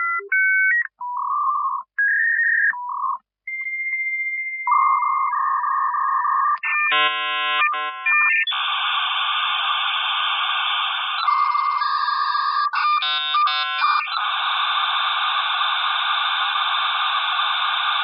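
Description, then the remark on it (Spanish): A dial-up modem connecting to the internet over a phone line via Telmex's Prodigy service: quick dialing tones, then a sequence of steady beeps and warbling screeches that give way to a dense, hissing static rush, all loud with no voices. “Conectarte vía telefónica o módem hacía unos ruidillos muy peculiares.”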